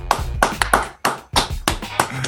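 Applause of loud, sharp hand claps arriving in a quick, slightly uneven rhythm, each clap clearly separated, with no voices on top.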